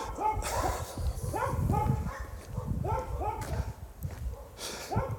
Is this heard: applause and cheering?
no